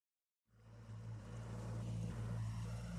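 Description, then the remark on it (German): A small motorboat engine starts up after a brief silence and chugs steadily with a low, droning rumble, fairly loud, with no voices, as the boat is steered through narrow canals late in the afternoon. “Monoton tuckerte der Motor des Kleinbootes vor sich hin,”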